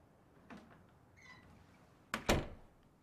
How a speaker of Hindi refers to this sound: अरे खड़े क्यों हो, अंदर आ जाओ, दरवाजे पर अच्छा नहीं है। दरवाजा भी बंद कर लो।